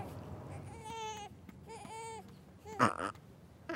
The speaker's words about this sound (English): Ha! Burping like a boss? Yeah, way to go, fake dad.